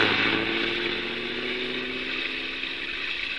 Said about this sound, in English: Stand back, honey. The bus is coming by. Might splash mud on us. He's coming awfully fast for a wet night.